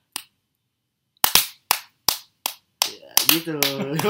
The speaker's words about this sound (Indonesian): Ada ketukan ya, ada ketukan. Pakai tempo ya. Berapa BPM itu? 90 BPM.